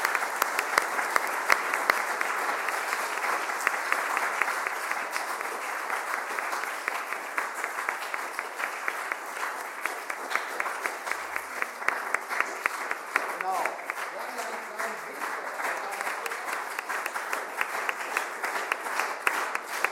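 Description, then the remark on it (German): A large church audience at a family service applauds steadily for the whole stretch to thank the preacher for the sermon, a dense, even wash of many hands clapping with no break, full and fairly loud throughout. “Und dafür kriegst du erstmal einen ganz großen Applaus.”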